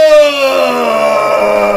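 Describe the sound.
A person lets out a loud, sustained bellowing cry, imitating a mighty roar as a character's attack in a game. The single harsh vocal tone holds steady and slowly drops in pitch for almost two seconds.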